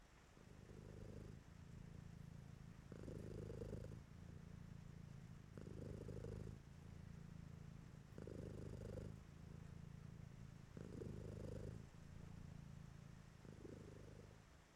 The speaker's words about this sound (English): It's not like I purr because you find it cute.